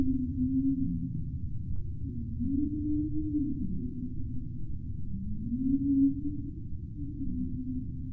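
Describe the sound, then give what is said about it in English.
Underwater whale calls: a series of low, drawn-out moaning tones that rise and fall in pitch, repeating over a steady low rumble of ocean noise, with no voices. “But they don't just stick their heads in the water and listen out for a passing whale.”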